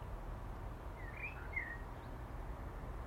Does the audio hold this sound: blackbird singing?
yes